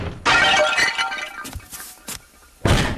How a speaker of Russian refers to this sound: с отвращением глядел на опрокинутую тумбочку и черепки разбитой вазы